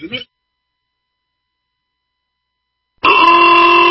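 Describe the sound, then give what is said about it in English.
A short vocal sound, a few seconds of silence, then car horns blare in abruptly: a loud, steady honk that holds without a break until the end. “Why do I hear honking?”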